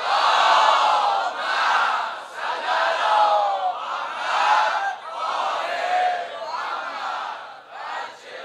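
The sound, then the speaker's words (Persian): A large crowd chants a salawat in unison, many voices rising and falling together in loud, rhythmic waves of sustained phrases for several seconds, with no single voice standing out. “اونایی که موافقن خیلی گرمه باید خنک بشه یه صلوات بفرستن.”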